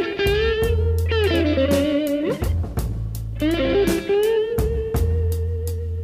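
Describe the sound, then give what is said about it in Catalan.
Loud 1968 blues rock record, recorded in the studio in 30 hours: a distorted electric guitar plays sustained, bending lines over pounding drums and a deep bass, steady, with no voice present. “en 30 hores van fer aquest increïble disc que deia …, l'any 1968, …”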